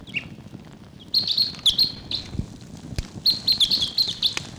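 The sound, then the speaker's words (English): A wild bird calls in the distance in Barfoot Park in high, rapid chirping bursts, two main flurries of thin trilling notes over a low background murmur, fairly faint and no speech. “Wild bird calling in the distance there.”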